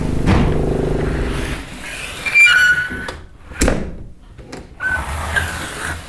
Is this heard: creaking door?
yes